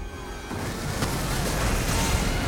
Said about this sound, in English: Joe lets go and is flung away from the wheel as it crashes to the ground.